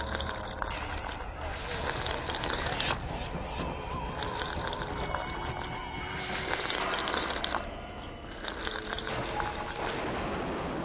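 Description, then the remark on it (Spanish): A steady stream of water trickles and gurgles continuously, a dense rushing wash that holds a fairly even level throughout, dipping briefly near the end. “Corrieron por ello al arroyo más cercano y bebieron ávidamente.”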